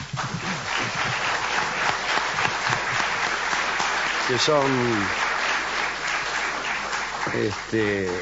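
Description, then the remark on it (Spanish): Steady applause from an audience welcoming guests on a programme fills the whole stretch, a dense, continuous clatter of many hands, while a voice speaks briefly over it partway through and again near the end. “Vamos a aplaudirlos.”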